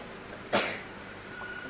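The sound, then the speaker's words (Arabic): A boy sneezes once, a single sharp, loud burst that fades quickly into quiet with a faint steady hum in the background. “يرحمكم الله يا ولد.”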